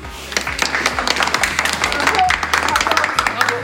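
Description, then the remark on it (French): An audience breaks into steady applause to thank those behind a Téléthon fundraising action: many hands clapping in a dense, irregular patter at an even, fairly loud level for a few seconds, with faint voices mixed in. “Et je pense qu'on peut pas vous applaudir.”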